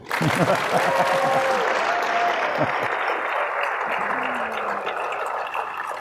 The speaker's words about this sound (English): That was very good. But I'm going to ask you to clap again in a second.